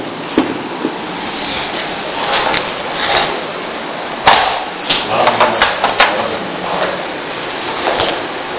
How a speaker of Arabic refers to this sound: هذا اللي يطقطق القلم لا تطقطق القلم، ركز لا تشغل نفسك صدق اي حركة تقوم فيها.